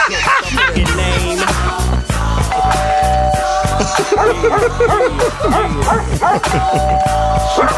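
A dog barks loudly in a rapid, repeated string of yaps that runs almost without pause, over a dense, steady background of other sound.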